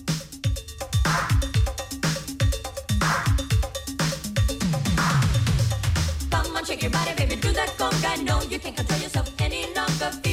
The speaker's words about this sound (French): Moi, je serais un musicien, là. Je me lancerais dans la cloche à vache.